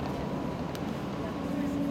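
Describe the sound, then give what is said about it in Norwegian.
Steady interior noise of a moving ATB city bus: continuous low engine rumble and road hum, a brief click partway through, a faint rising whine near the end, and indistinct murmur underneath, with the next stop, Studentersamfunnet, announced. “med på sin første busstur etter at hans stemme ble installert på ATBs busser.”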